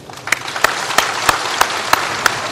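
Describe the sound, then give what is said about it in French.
Sustained applause from staff at Matignon giving Édouard Philippe a long ovation, a dense crackle of many hands clapping with a few sharper, evenly spaced claps standing out roughly every third of a second. No one speaks. “Ému, Édouard Philippe est longuement ovationné par ses équipes avant que Jean Castex ne lui rende à son tour hommage.”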